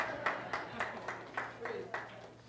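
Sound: audience clapping hands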